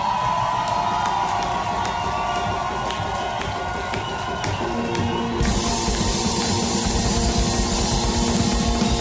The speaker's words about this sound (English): Give the loudest cheer you possibly can